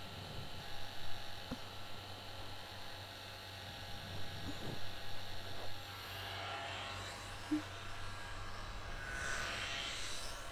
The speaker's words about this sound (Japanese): ドライヤーで乾かしながら、ブラシで優しく溶かしてあげるのも大切なの。風を下から当てると広がってしまうし、キューティクルが剥がれてしまうのよ。